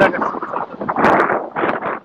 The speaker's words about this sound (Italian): C'è il vento forte.